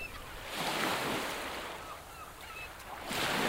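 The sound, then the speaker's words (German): Sea waves surge and wash onto a beach in broad, hissing rushes, swelling around the first second and again near the end, with faint wind noise and no voices. “Und der war auch blind und wollte das Meer, hörte das Meer rauschen.”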